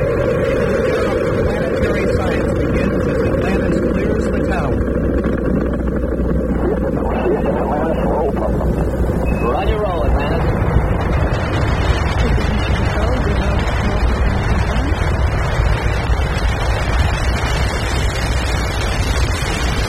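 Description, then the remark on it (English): The main engines of the Space Shuttle Atlantis roar at liftoff, a loud, continuous, deep rumbling crackle that fills the whole stretch, steady, with no pauses or voices cutting through. “7, 6, we have main engine start. 2, 1, 0, and liftoff.”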